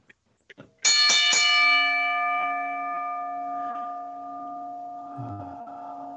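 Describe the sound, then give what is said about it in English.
A bell is rung to start a show, with a few quick sharp strikes, then a bright metallic tone that hangs and slowly fades, ringing loud with a faint low rumble near the end. “Ring the fucking bell.”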